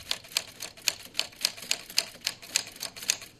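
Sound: manual typewriter typing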